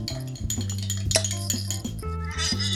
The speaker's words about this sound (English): Sounds like a little kid stirring a glass. Oh, man. My honey so, is not amalgamating.